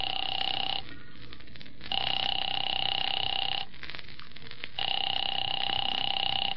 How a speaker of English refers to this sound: Phone seemed to ring forever. And just when I was about to hang up...